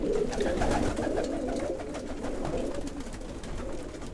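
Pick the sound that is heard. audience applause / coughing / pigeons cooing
pigeons cooing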